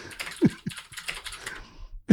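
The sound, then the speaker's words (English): Loud, fast typing on a computer keyboard, a rapid irregular clatter of keystrokes with a few heavier thumps, alone with no talking. “Do you mind not typing so loud?”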